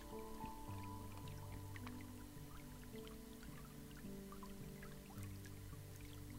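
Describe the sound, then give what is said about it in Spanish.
Faint, steady running water with small scattered drips and trickles, heard alone without voices, over a soft low sustained tone in the background. “Y ahí con ese sonido de fondo que hay de agua corriendo”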